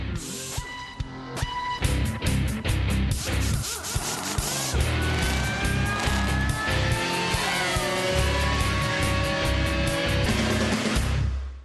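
A loud, driving Formula 1 theme: punchy percussive hits open it, then sustained synth tones and swooping engine-like roars fill the rest, with no one speaking.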